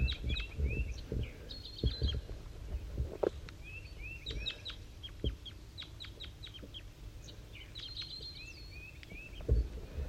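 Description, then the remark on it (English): At 7:50 a.m., two birds trade calls back and forth: a bird called 5-3, slightly higher pitched, and a lower-pitched wild bird up in the top of a dead pine. Short high chirps, quick trills and sliding notes repeat at a steady pace over low rumbling noise and a few soft thumps. “and 5-3 and the wild bird are communicating here.”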